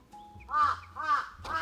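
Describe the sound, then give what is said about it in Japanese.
Crows caw three times in a steady, harsh rhythm at Lake Toya in Japan, with a faint high bird note and low background hum between calls. No one speaks. “おー、カラスが騒いできたのでそろそろ終わりにします。”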